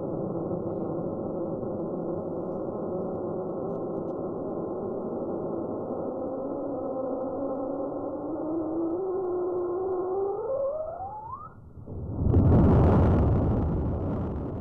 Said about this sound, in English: We're going to play the whole scream all over again. It's got a lot of different parts to it, so have a listen. This is the volcano scream.